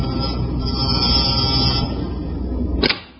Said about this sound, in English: I went next door and rang the bell at Eileen's apartment.